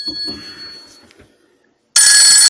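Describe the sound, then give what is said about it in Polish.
A phone rings with a high electronic trill that fades out, then after a short pause a loud, harsh ring bursts in briefly, without any talking. “No więc wracając, przepraszam, powinienem wyłączyć telefon.”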